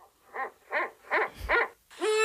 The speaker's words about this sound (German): Hör mal, die klingt hier aber auch wirklich... Entschuldigung, aber das ist doch ein rammelnder Uhu. Hör mal. Ja, das klingt ein bisschen verstörend.